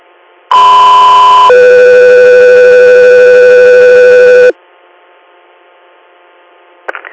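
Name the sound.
dispatch paging alert tones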